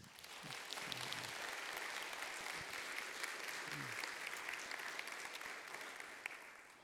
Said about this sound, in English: Give them applause.